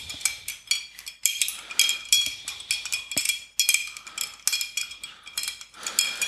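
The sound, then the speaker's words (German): Ice cubes clinking and rattling against a glass as a rum Old Fashioned cocktail is stirred, a quick, continuous series of bright taps and clinks, fairly loud with no talking. “Endlich ein Glas, in dem man auch ordentlich rühren kann.”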